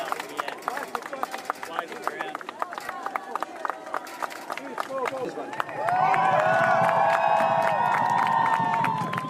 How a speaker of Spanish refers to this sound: Y ahora pasamos a un asunto mucho más importante, con un aplauso a modo de ovación. Allá va.